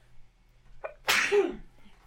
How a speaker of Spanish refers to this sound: Voy a estornudar.